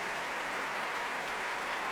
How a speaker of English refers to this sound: Well, this great cheer for the chorus masters.